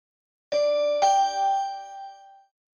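A phone ringtone sounds as two bright, bell-like chime notes about half a second apart, ringing out clearly and fading over a couple of seconds, with no voices.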